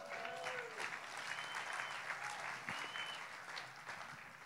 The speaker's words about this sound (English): You might clap your hands.